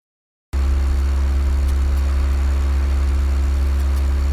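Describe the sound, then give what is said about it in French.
A well-maintained car's engine idles with a smooth, steady purr, a deep constant rumble that starts abruptly after a brief silence and holds evenly throughout, with no voices. “Hé, vous entendez ce moteur ? Quel plaisir ! C'est le ronronnement d'une voiture entretenue chez Feu Vert.”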